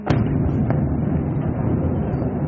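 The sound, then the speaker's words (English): A loud, continuous low rumble fills the scene, punctuated by a sharp blast near the start and another shortly after: explosions ripping through Caracas, Venezuela, at night in the early hours of Saturday morning as the power was cut and the US military swept in. No one speaks. “The power was cut, explosions ripped through the city, and the US military swept in.”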